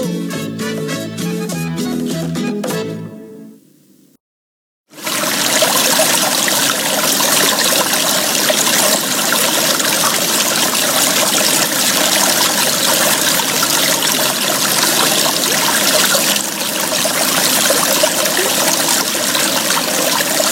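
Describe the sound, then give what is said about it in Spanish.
After a few seconds of music and a brief silence, river water flows continuously with a steady, full rushing sound that stays loud and even, with no voices, until the end. “río, en contacto con la naturaleza.”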